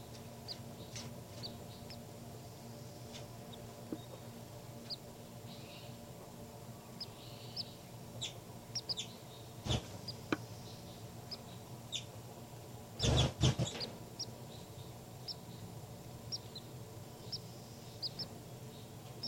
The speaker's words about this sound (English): Baby birds are calling a lot louder now. Point it back at the baby birds.